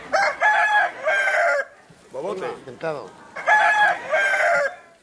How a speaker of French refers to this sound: il y a les coqs, ils sont en train d'entraîner les coqs de combat. Voilà, les coqs de combat.